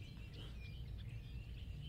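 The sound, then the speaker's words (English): A bird chirps steadily in quick, high little calls over a low background rumble, with no one talking. “The bird's a little loud, so, had to turn up my volume there.”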